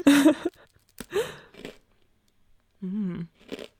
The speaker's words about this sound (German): Oh, der hört sich ja richtig keksig an, wenn du da reinbeißt. Ja, jetzt können wir gleich unser Keks-Crunch neu aufnehmen.